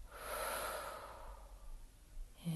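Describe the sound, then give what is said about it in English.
A slow, deep breath drawn in and let out, a soft airy rush that swells and then fades, with a faint hint of the next breath starting at the end. No talking. “I want you to do some deep breathing with me here.”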